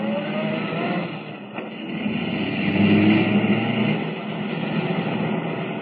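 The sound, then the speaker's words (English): The car Kent is driving roars steadily at speed chasing a blue roadster, a dense, rumbling drone that swells slightly midway, with no voices over it. “Can the car Kent is driving keep up with the blue roadster?”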